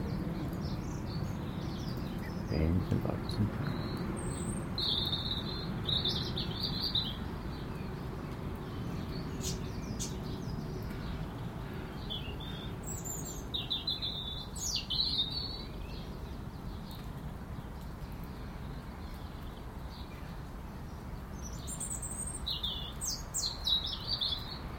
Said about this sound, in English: That wee robin is on the topmost fragile wee twig on the top of the big lavandy, 50, 60 feet in the air.